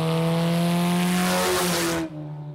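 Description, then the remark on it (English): A loud engine of a rebuilt vintage stock car roars past at high revs on a rural racetrack in Ona, West Virginia, its steady harmonic drone sliding slightly in pitch before cutting off abruptly, leaving a lower rumble behind. “We'll visit with a father and son who rebuild vintage stock cars and race them along a rural racetrack in Ona, West Virginia.”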